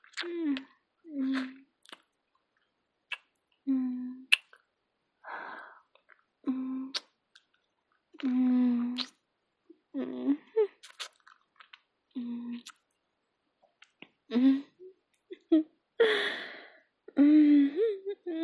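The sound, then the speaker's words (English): Wet mouth sounds of slurping and swallowing come in short, irregular bursts, with soft breathy gasps and small voiced murmurs between them. No words are spoken. “You wanna watch me slurp it all up?”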